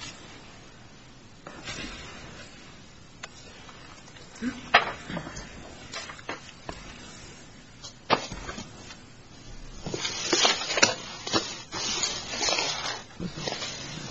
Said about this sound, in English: Yeah, before you begin, could I ask Judge Kleinfeld, please, that your microphone is very close to your papers and we're getting a shuffling noise.